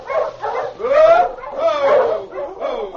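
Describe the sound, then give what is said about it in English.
A pack of sled dogs pulling a dog sled driven by two men barks and yelps in rapid, overlapping bursts, a loud chorus of excited howling barks that rises and falls without pause. “There's a dog sled coming.”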